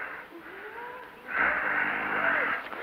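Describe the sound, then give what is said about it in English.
Low, harsh breathing of a huge, broad-shouldered man: a quieter ragged breath, then a louder, longer rasping exhale with a faint groaning edge. “There was this huge man, massive shoulders and powerful forearms, long talon-like fingers, lank black hair, black, intense eyes, and that low, harsh breathing.”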